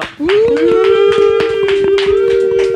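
An audience claps in quick, uneven bursts while a long, steady, howl-like whoop holds one pitch over the applause from start to finish.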